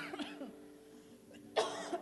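A person coughs in one loud, harsh burst near the end, after a quiet stretch with soft breathy noises and a faint low hum, during a guided meditation.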